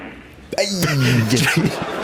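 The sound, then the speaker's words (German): A single drawn-out, buzzy fart noise, seemingly made by a person's mouth, comes from an audience member in a vast arena during a final, ringing out loudly for over a second against a hushed, murmuring crowd. “Aber im Publikum hat mit Furzgeräusch der Final gestört.”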